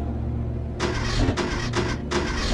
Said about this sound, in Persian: در این حال اینجوری ماشینش هم خراب شد، یعنی ماشینش بعد که اومد پایین استارت زد هر کاری کرد روشن نشد، اومد پایین قریب به 2 ساعت به این ماشین بر رفت نشد.